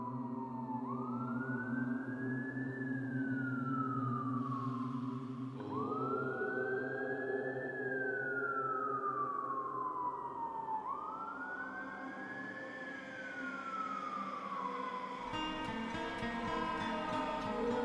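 Faint fire engine sirens wail from far away, rising and falling in three long, slow sweeps over a steady low rumble, with no voices.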